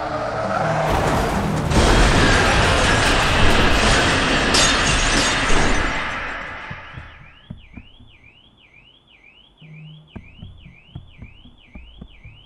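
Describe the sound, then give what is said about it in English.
A loud car crash as another car smashes into the narrator's car, with crunching metal and shattering glass dominating the first several seconds, then fading as a warbling car alarm starts up and sounds steadily, with scattered debris clinks. “I'm dazed, hardly conscious as the figure from the other car that's just smashed into me approaches.”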